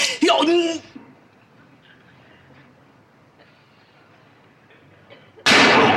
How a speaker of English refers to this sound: He shot the chair